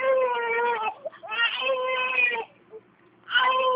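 A baby, the great-grandson of the woman on a phone call, cries in three loud, sustained wails separated by brief gasping pauses, with no other voices.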